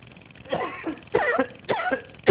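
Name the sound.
coughing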